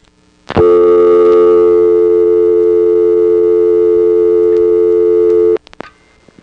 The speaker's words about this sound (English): Notice the dial tone came on just as I picked up the phone, super fast. This is the ESC in Warwick, New York, recorded in February 1977. I've dialed a digit, but I'm not going to dial anymore.